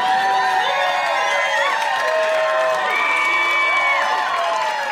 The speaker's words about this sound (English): I was expecting the crowd to go nuts when I said that.